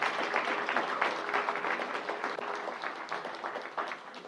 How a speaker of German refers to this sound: Sie hat Mut, hein? Junge Mädchen. Kann man ein bisschen Applaus geben, um sie zu ermutigen.